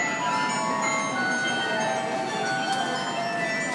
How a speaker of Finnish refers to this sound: missä oli ehkä 100 jotain semmoista pientää muovista joulumökkiä, jotka soi